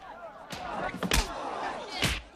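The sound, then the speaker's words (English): Heavy punches land as one man punches another back in a fistfight with a crowd gathered, about four sharp thudding smacks at uneven intervals, loud, over a murmuring background of voices and scuffling. “Philo punches him back and lands a few more.”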